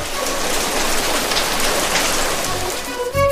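Steady, dense rain pours down and patters on a hard surface, a continuous hiss of countless drops with no voices, ending with a brief faint tonal sound.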